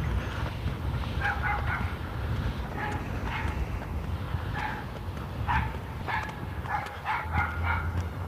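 small yappy dog barking

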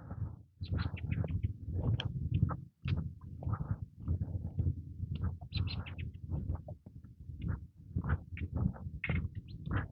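sparrows chirping

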